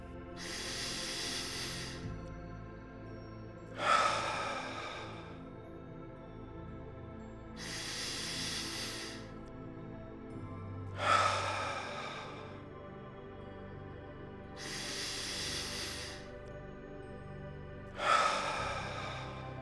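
Slow, deep breathing alone during a relaxation exercise: three full cycles of a long inhale followed by a longer, audible exhale, steady, with quiet pauses between.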